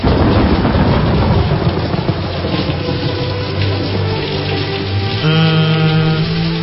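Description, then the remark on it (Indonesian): Heavy rain pours in a dense, steady roar, and partway through a low sustained hum of music or drone rises beneath the downpour. “Akhirnya aku berkata pada Uji dan temanku Iman untuk menembus hujan”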